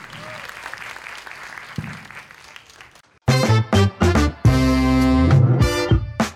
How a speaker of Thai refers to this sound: ขอเสียงปรบมือให้